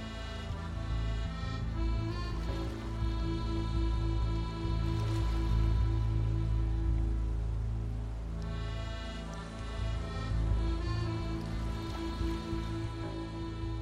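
Steady rain falls continuously, a dense, even hiss of drops with no speech, holding at a consistent moderate loudness throughout.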